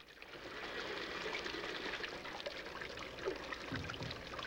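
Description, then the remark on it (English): Steady rush of running water with a few brief splashes breaking through as a woman splashes water onto her face over a basin in a bathroom. No voices. “She splashes water onto her face.”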